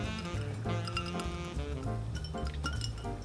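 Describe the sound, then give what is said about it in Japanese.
Glasses clink together several times in a toast, bright ringing tones overlapping against a dense, steady background of sound, with no one talking. “じゃあ乾杯をしたいと思います。”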